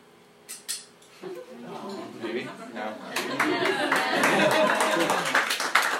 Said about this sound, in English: So you open the front plate here and pull out the little bellows there. And you actually take a picture by standing over it, looking down. There's a little lens. And then hit the shutter. I'll do the shutter. It's a good noise.